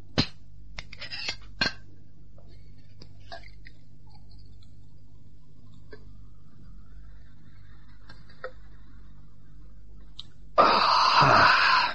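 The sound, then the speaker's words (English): Drinking glasses knock and clink together in a few sharp taps near the start as a glass is passed, followed by quieter scattered ticks, then a steady rushing noise fills the last seconds. No one speaks. “Oh, just pass that glass, will you?”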